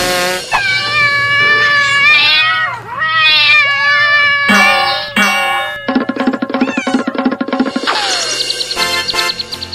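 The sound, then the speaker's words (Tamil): A cat meows loudly in several long, wavering, drawn-out cries, followed by a busier stretch of overlapping tonal sounds. “இத நீங்க முதலியே செஞ்சிருந்தீங்கனா அப்பவே பூனை சார உடனடியா புடிச்சிருக்கலாம்.”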